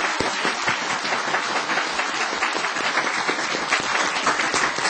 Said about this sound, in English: You hear our clapping, yeah? That's from us here. Та бүхэн бидний алгаа ташж байгааг сонсож байна уу? Энэ өрөөнд байгаа бүх хүмүүс алгаа ташж байна.